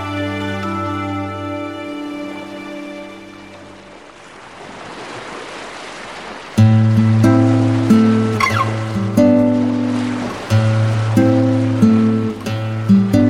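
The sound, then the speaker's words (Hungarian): Sea waves at a bay wash in a soft, steady rush, rising briefly on their own between stretches of sustained, tonal music before the music swells louder over them. “mélyen magába szívta a friss tengeri levegőt. Hosszú hónapok óta végre fiával sétálhatott az öbölben.”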